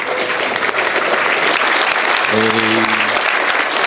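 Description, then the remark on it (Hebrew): A crowd applauds steadily after the announcement of a reunion evening, a dense wash of clapping that fills the whole moment, with a short sustained vocal tone, like a cheer or hum, rising briefly above it near the end. “הזמן למחיאות כפיים.”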